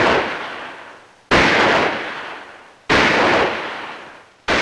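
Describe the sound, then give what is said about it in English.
Gunshots from contestants taking turns shooting at a target in a shooting contest, fired one after another at steady intervals of about a second and a half. Each loud, sharp crack trails off in a long, rumbling decay before the next. No voices. “Now, one after the other, the contestants continue taking turns shooting.”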